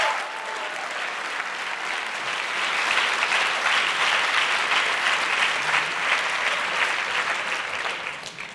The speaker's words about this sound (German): Bitte einen ganz herzlichen Applaus für unsere erste Gruppe.